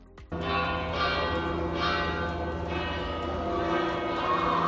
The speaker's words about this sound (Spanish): Así sonaban las campanas de la Catedral de Pamplona para anunciar que el mundo tenía un nuevo papa. Ayer por la tarde, a las 6:08 de la tarde, campanas que no solo tocaron en la capital navarra, sino también en varias localidades de la comunidad